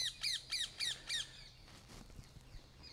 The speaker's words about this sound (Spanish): hay un loro, yo creo que no está de acuerdo con mi catequesis, no lo sé.